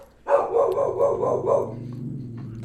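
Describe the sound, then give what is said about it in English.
A dog in a hallway barks in a quick run of about five loud yaps, then trails off into a lower, rumbling growl. No one speaks. “The dispatcher interruption every 3 minutes or your damn dog in the hallway?”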